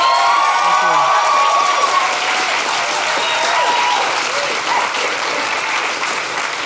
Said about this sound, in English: So we really appreciate it. A big round of applause for Jordan Raskopoulos.